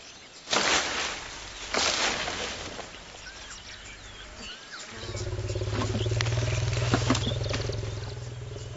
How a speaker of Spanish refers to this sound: La trompa del elefante es lo bastante sensible como para seleccionar hojas individualmente, pero lo bastante fuerte como para arrancar ramas enteras.